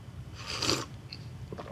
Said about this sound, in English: Hey, here's one thing I can't do on Sundays when I'm preaching is have a sip of coffee. So just we'll just listen as I have a sip of coffee. Just enjoy this with me.